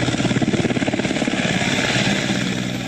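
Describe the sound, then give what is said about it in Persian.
A Taliban helicopter rescuing people stranded by floods in eastern Afghanistan runs, its rotor beating in a fast, steady chop over a loud, broad engine whine that fills the whole stretch with no voices. “در یک ویدیو دیده می شود که شماری از افراد به سوی هلیکوپتر طالبان می شتابند تا به جای مسعون منتقل شوند.”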